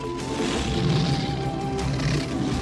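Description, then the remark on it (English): Several lions roar together in a loud, sustained chorus of deep, rumbling growls that fill the whole moment without pause, powerful, with no talking; in The Lion King, Simba, Kovu, Nala and Kiara roar on the promontory. “Linus's roar with Simba and his family.”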